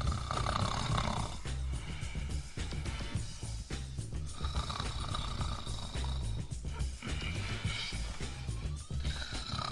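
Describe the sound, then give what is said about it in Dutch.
A voice imitates a snoring houseguest with loud, rasping snoring, rough drawn-out snores repeating steadily, rattling and throaty with a growl-like edge. “De snurk.”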